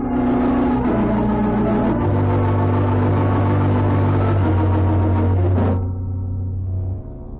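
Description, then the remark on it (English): A loud outboard motorboat engine, a speedboat from the lodge, drones with a steady, buzzing hum, then throttles down near the end to a lower idle before fading. No one speaks. “From the lodge. An outboard motorboat.”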